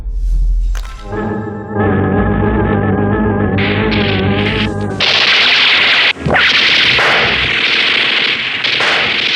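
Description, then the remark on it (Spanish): Dramatized gunfire in an audio drama as CIA agents open fire on Colonel Boris's men: a sharp crack opens, a sustained tonal musical swell follows, then a loud, dense barrage of noisy blasts with another sudden crack partway through. No one speaks. “Los primeros disparos por parte de los agentes de la CIA han tomado por sorpresa a los negros hombres del coronel Boris, que caen sobre la primera cubierta.”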